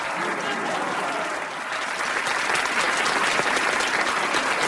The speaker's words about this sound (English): they're still clapping.